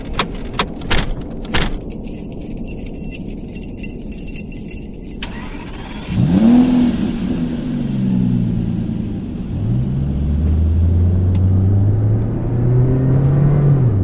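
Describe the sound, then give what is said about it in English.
Keys jangle and a few clicks, then a car engine starts and settles into a loud, steady hum that rises in pitch as it revs and pulls away. No one speaks. “Come to my car. Let's get out of here, okay?”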